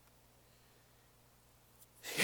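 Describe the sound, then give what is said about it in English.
After near silence with a faint low hum, a voice imitates angry heavy breathing: one loud, forceful huff of air through the nostrils at the very end. “So she doesn't say a word, I walk out of the room and upstairs and I'm breathing heavily. You know, your nostrils. Open and close like that.”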